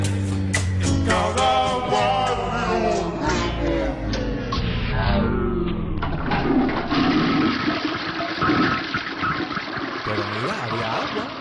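A toilet flushes, a loud rush of water with gurgling tones that gradually settles into a steady, hissing refill for several seconds.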